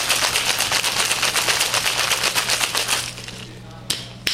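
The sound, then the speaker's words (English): Ice cubes clatter hard inside a 23-ounce cocktail shaker, shaken vigorously while mixing a drink, in a fast, steady rhythm for about three seconds, then the shaking stops, leaving a low hum and a couple of sharp clicks. “We're going to put that in our 23-ounce shaker and just shake it like crazy.”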